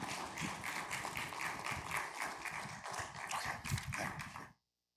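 An audience applauds steadily for about four and a half seconds on a Saturday evening, welcoming a guest speaker, a dense, even wash of many hands clapping at once, before it cuts off abruptly into silence.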